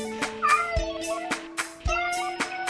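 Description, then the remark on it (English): A short, upbeat jingle with sustained tones and regular percussive hits, layered with cat-like meowing sounds, played loud and close with no talking. “That's the only thing, the jingle explains itself.”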